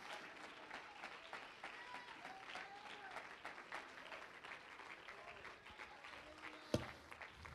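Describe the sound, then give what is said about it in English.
A church audience claps hands together in a dense, steady patter of overlapping claps, with crowd voices murmuring underneath and one sharp, louder clap standing out near the end. “Clap your hands, lift your voice, magnify him.”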